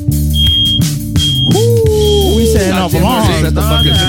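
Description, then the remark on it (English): A smoke alarm sounds a thin, high-pitched tone in repeated bursts, partly buried under loud voices and other busy noise. “Setting off the alarms in this mug. Already.”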